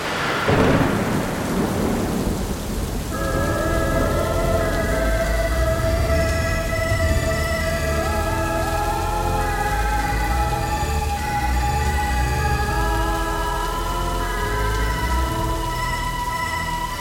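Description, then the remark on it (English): A sharp thunderclap opens a storm, then deep rumbling and steady rainfall continue throughout, with eerie sustained musical tones layered over the downpour. No one speaks. “Come in from the storm.”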